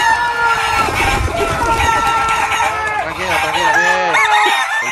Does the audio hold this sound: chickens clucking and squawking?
yes